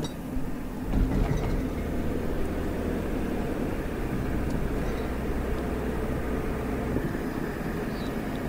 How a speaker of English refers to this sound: I'd almost say it's a typical looking Midwestern town. Crossing the train tracks now.